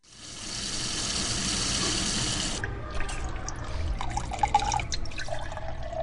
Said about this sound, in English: That sound of drinkable water gushing from a tap into a glass is one we take for granted here most places in the United States.